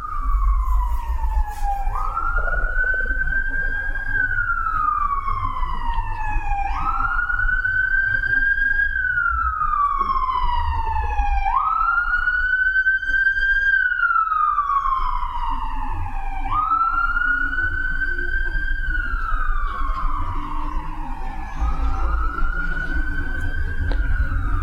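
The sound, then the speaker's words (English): An emergency siren wails in slow, repeating rise-and-fall sweeps, about five cycles, staying loud and steady throughout over a low rumble of traffic. “Notice when the mind pulls you away with distractions, like the siren.”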